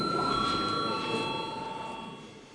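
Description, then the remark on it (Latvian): A parliament chamber's steady electronic bell rings without a break, its bright, high tones holding level for a couple of seconds over a low background hum before fading slightly. It calls members to vote on extending the deadline for proposals on a public electronic media bill. “Lūdzu zvanu.”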